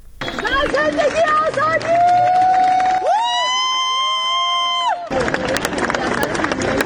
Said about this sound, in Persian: و بر اساس ویدیوهای منتشر شده در شبکه‌های اجتماعی، جعفر پناهی دو روز پس از دریافت جایزه نخل طلای جشنواره فیلم کن بامداد امروز وارد فرودگاه تهران شد و مورد تشویق مردم حاضر در آنجا قرار گرفت.